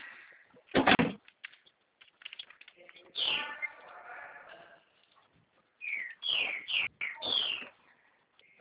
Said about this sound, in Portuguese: E passarinho tá cantando aí, tá feliz, né? Menina, todo mundo que liga aqui para casa, a primeira coisa que escuta são os pássaros.